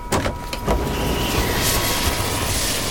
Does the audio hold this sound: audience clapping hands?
no